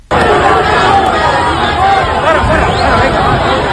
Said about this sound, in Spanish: A Sánchez se lo llevaron para el coche, pero paralelamente los insultos y el barro le llovían a los reyes y a Mazón, porque el abucheo, hay que recordar que fue a los cuatro.